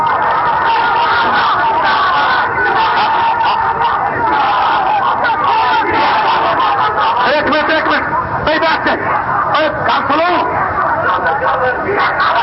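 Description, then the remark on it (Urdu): A large crowd chants religious slogans together, a loud, dense roar of many voices that carries on steadily for the whole stretch, with rougher bursts of shouting toward the end. “ناروں کا وقت نہیں.”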